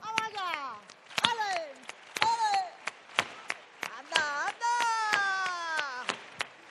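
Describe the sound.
Sharp hand claps (palmas) from a crowd strike in a loose, steady rhythm for sevillanas while a voice sings long, sliding, wavering phrases over them, at the kickoff of the Feria de Sevilla in Seville. The claps stand out crisply between the sung lines.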